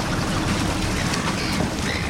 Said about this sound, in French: Le bruit des vagues et le cri des mouettes, depuis bientôt 2 ans, c'est à peu près la seule chose qu'on entend sur l'esplanade de l'opéra.